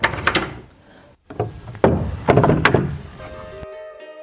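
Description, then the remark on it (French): A heavy wooden monastery door is opened by a monk, with a series of creaks, knocks and thuds, the latch clattering before a final solid clunk; fairly loud, with no voices. “Le frère portier, un grand gaillard borgne, à la mine pas très engageante, lui ouvrit la porte.”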